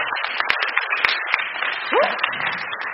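An audience applauds steadily for about three seconds to welcome a speaker to the front, a dense wash of clapping with a few sharper individual claps standing out, and a brief rising whoop partway through.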